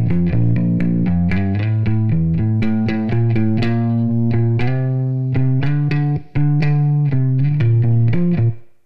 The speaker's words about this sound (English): So, bass can have some reverb too.